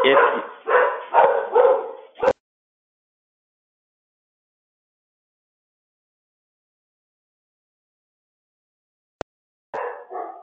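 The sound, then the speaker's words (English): Dogs bark loudly in a quick run of overlapping yaps for a couple of seconds, then everything goes quiet until a brief click and another short burst of barking near the end. “Apologies for dogs barking.”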